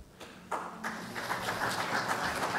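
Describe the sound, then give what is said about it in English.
An audience breaks into applause at the end of a talk, many hands clapping in a dense, steady patter that swells after a quieter start and holds at a fairly loud level throughout. “Because you clapped me, if you want to ask a question, you can.”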